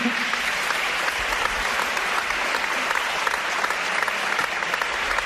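Sustained audience applause, a dense, steady wash of many hands clapping at an even loudness throughout, with no talking over it.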